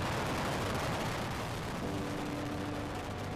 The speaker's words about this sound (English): One, booster ignition, and the final liftoff of Discovery. Discovery now making one last reach for the stars.